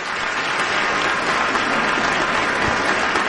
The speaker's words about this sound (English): Where's the applause?